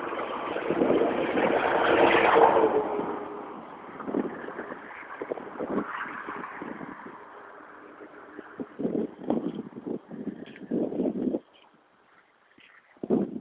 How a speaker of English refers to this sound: What a lot of cars. Everybody scurrying about after yesterday's storm, I guess.